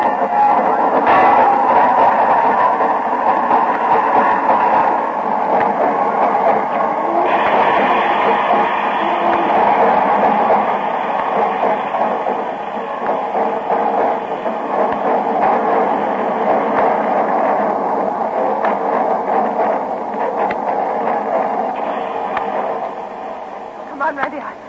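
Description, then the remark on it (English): A train rumbles steadily into a station, a dense, continuous roar of wheels and machinery that holds loud for the whole stretch and eases slightly at the end, with voices blurred underneath. “Are you expecting him on this train?”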